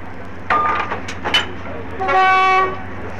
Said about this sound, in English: You'll hear now are typical sounds of a departure, perhaps very distinctive noises of the activities that precede the departure of an important train of this kind.